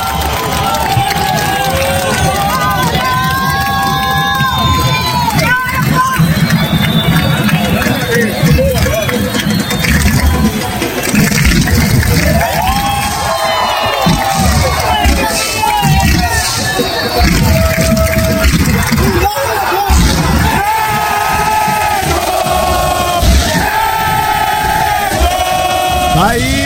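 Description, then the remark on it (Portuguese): A large crowd of Vitória football fans cheers and chants loudly and continuously as the team bus arrives at the Barradão stadium, a dense wall of voices with shouted rises and drumming energy that never lets up. “Olha aí, ó, chegada da torcida do ônibus do Vitória no estádio. Agora a festa no Barradão.”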